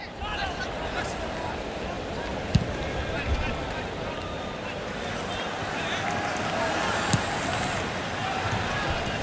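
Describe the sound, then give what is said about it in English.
A football match at the 2004 Athens Olympics in progress: a steady roar of crowd shouting and cheering throughout, broken by a few sharp, isolated thumps like balls being kicked. “What you're hearing now is a game from the Athens Olympics in 2004.”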